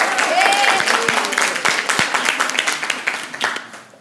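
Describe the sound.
A crowd claps and applauds steadily for several seconds, the dense patter of many hands loud at first, then thinning and fading out at the end, with a few faint voices mixed in.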